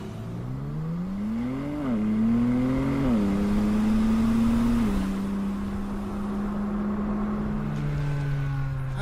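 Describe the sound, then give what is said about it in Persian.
A car engine revs, its pitch climbing in two quick surges before settling into a steady, loud idle-like drone that continues to the end, with no talking. “یه همچین ماشینی اینجا چی کار میکنه؟”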